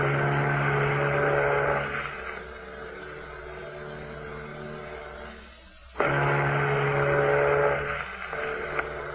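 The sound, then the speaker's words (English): A deep, droning ship's horn from another ship approaching in the fog sounds in two long, loud blasts, with a quieter stretch of steady mechanical hum between them and no voices. “That's no echo we're hearing. That's another ship. It does seem to be getting closer.”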